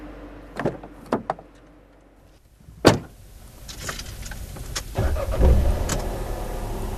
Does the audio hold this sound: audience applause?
no